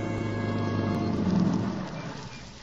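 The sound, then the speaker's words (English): A car engine rumbles steadily as the vehicle drives up to a boarding house in the early evening, its low hum easing off slightly toward the end as it comes to a stop, with no voices. “Tom Stevens and Helen Benson drive up to the boarding house after their picnic”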